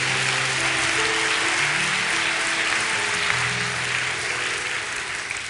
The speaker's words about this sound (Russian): Ну, дайте Богу аплодисменты.